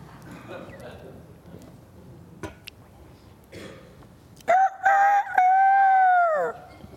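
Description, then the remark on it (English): A rooster crows once, loud: two short clipped notes, then a long drawn-out falling call lasting about two seconds, after a stretch of low background murmur. “Going to be a lot of roosters crowing out there.”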